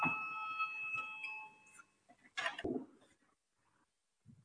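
A parliament voting bell, rung to call a vote on proposal 15 from Justice Minister Jānis Bordāns, sounds as a steady, ringing electronic tone with layered harmonics for about a second and a half, then stops, followed by a short burst of rustling noise and quiet.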